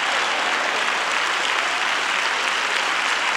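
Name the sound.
audience clapping hands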